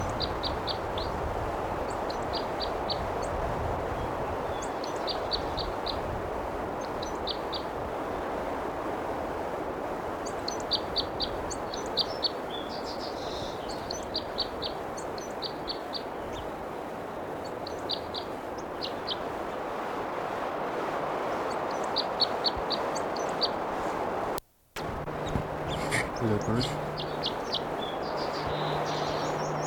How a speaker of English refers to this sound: There's a bird still singing.